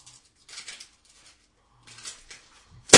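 dynamite explosion

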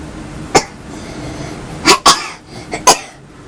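girl coughing

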